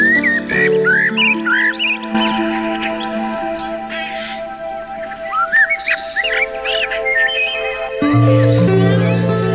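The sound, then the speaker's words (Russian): Birds chirp in quick, bright bursts over a steady, sustained musical tone, the twittering calls scattered throughout, with the music swelling near the end. “И, возможно, в будущем привычный щебет птиц...”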